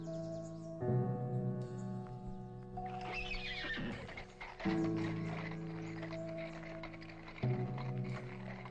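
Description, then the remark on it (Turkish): A horse neighs repeatedly, three loud, shrill whinnies with wavering harmonic tones, over the rough, continuous clatter of galloping hooves and no talking. “Cənab səfir, İranda at çapmaq bir sünnətdir.”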